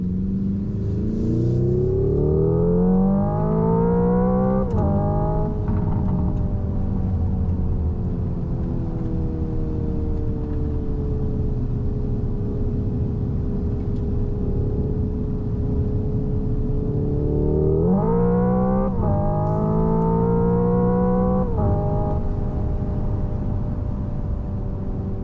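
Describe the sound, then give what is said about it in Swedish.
An electric car's synthetic engine tone plays loud, climbing in pitch with stepped shifts, holding a steady hum, then surging upward again near the end. No one speaks. “Nej, motorljuden är det ju. Det är ju motorljudet som gäller.”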